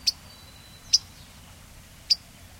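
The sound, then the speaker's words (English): Three sharp, metallic chip notes from a waterthrush, spaced unevenly about a second apart, each loud and crisp against a quiet low background rumble. “You'll find migrating water thrushes at all sorts of wetlands, where you can locate them by their loud chip notes.”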